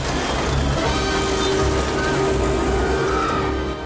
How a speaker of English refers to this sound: The plane flies low over a fairground.